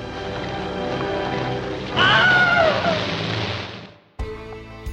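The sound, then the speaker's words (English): A short, shrill stock film scream, used for a film scene in which a man walking across the Florida Everglades with other soldiers is bitten and dragged underwater by an alligator, with a wavering, falling pitch, cuts through loud churning, splashing water, and the scene then ends abruptly on a sustained tonal sound. “And it had a scene where a man is walking across the Florida Everglades with other soldiers, and he's bitten and dragged underwater by an alligator. And they needed a scream for that.”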